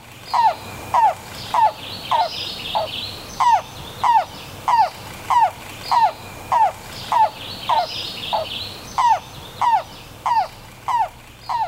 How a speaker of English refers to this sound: Okay, this evening we're profiling the yellow-billed cuckoo, and we have two different calls to play for you. So let's listen to the so-called coo call.